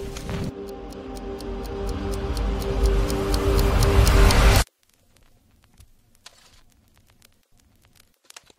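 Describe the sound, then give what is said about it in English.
A clock on the wall ticks steadily and evenly over a loud, rumbling bed of sustained tones for about four and a half seconds, then everything cuts off abruptly, leaving near silence with faint scattered clicks. “Hear the clock ticking on the wall”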